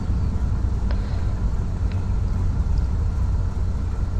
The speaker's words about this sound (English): Landed. Brakes and reverse thrust, sir. That didn't sound like a hard landing, but...